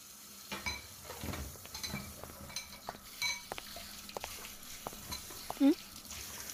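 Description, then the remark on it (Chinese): Clatter of bowls and chopsticks being washed after a meal: scattered clinks, scrapes and rustling stirs at a moderate level, with a brief voiced murmur near the end. “不是跟你说碗不用洗吗？”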